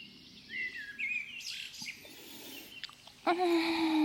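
bird chirping

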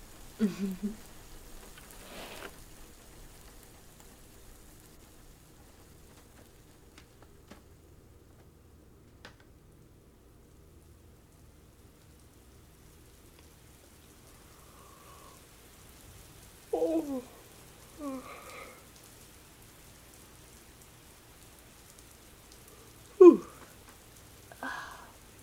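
rain falling

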